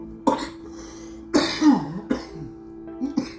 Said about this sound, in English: Still cough. Not as bad.